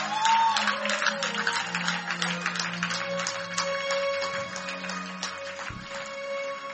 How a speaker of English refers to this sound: Now get up on your feet and give the Lord a big clap. Come on, do so. Do so, do so, do so. Do so and do it well.